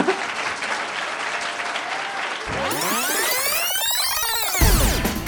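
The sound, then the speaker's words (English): A crowd applauds with steady, dense clapping for a couple of seconds, then the clapping gives way to swooping, rising-and-falling electronic tones that sweep across the sound. “And so before I let you go, if you can, good round of applause, because I need a hand.”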